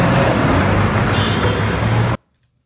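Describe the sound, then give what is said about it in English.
A loud, steady roar of a tow truck's heavy engine as it speeds up after a car goes around it, mixed with traffic noise, a low rumble under broad road hiss, cutting off abruptly after about two seconds. “He finally gets away, goes around the tow truck, and the tow truck speeds up.”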